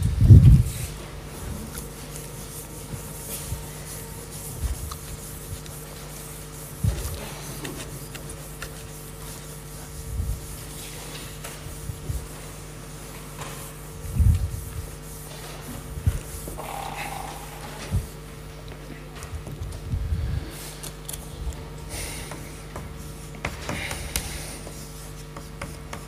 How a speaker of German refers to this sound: jetzt muss ich mal kurz hier die Wand sauber machen, wenn ein Schwamm da ist.